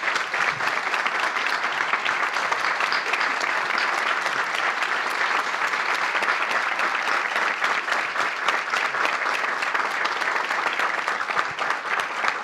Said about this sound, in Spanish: Y voy a pedir un aplauso muy grande para nuestros chicos de las escuelas rurales.